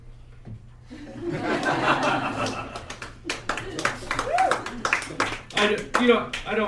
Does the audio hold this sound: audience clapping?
yes